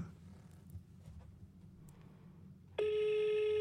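After a stretch of low background rumble, a loud, steady telephone ringback tone begins near the end, the ringing heard on an outgoing call placed from a hidden number, running on without any talk.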